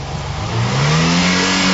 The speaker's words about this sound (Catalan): Jo el que tinc superclar de tot això és que, mira, de fet, mira, escolta el motor. Aviam, el motor d'aquesta embarcació